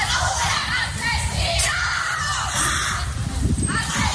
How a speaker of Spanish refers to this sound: Gritos de la familia de este militar de 37 años grabados por nuestros compañeros en la ciudad autónoma.